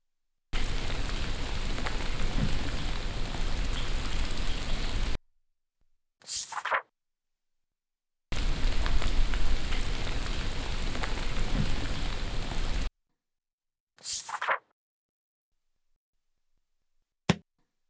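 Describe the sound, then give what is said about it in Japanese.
Steady, dense rain hisses loudly in two bursts of about four seconds each, each cut off and followed by a brief whooshing swell; a single sharp click comes near the end. “今日は雨ですわね。”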